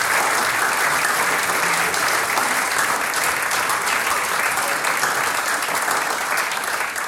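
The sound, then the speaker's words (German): Sustained audience applause at a singers' and musicians' gathering, dense and steady, a crowd clapping loudly and continuously throughout with no break or voices standing out. “Ihr kriegt einen Applaus.”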